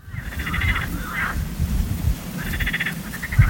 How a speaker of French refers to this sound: En fait, vous n'entendez rien parce que les chauves-souris émettent des ultrasons. Ce que vous aperceviez au loin, c'est le coassement d'amphibiens.